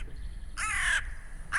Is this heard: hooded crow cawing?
yes